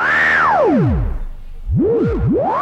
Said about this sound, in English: Yeah, and I know what that is. I know what those pitch sweeps are.